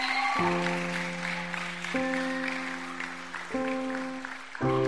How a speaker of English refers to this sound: Oh, clap.